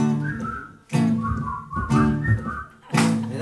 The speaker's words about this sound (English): Yeah, when you feel it in the dumps, don't be silly chumps. Just push your lips and whistle, that's the key.